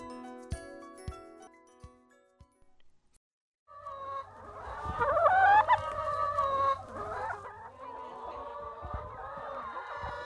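A flock of chickens clucks and squawks busily at Blue Yonder Organic Farm in Indiana, a farm raising 900 chickens, with overlapping calls growing louder and denser after a brief quiet gap, with a low hum underneath.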